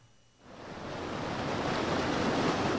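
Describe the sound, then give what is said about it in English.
Steady rushing of the Grand River flowing past its banks at the Riverwalk in Old Town, where anglers are fishing, a dense broad wash that swells in after a brief quiet moment and holds strong, with no voices. “And you are fishing right now on the banks of the Grand River.”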